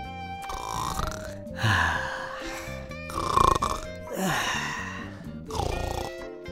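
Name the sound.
wolf snoring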